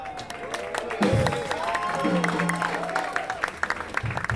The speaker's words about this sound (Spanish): aplauso para